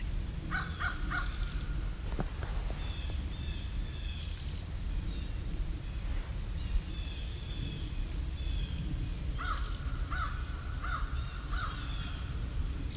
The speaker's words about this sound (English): So to me, all those birds that we're hearing indicates the end of the long silence of winter and a return to all the noises of spring. So we're hearing a crow and a chickadee, some blue jays, you know, nothing terribly exotic, but it's bird song